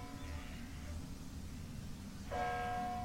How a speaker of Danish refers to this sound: Alle de steder, hvor der sker noget interessant i podcasten, der er der klokker, kirkeklokker i baggrunden.